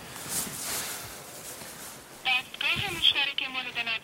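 phone call being dialed

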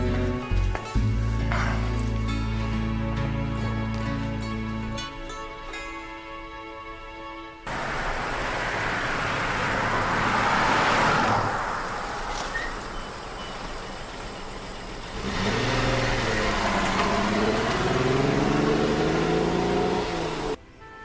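car engine running

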